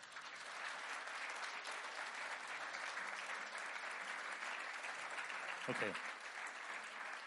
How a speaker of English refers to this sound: I'll give them a big clap.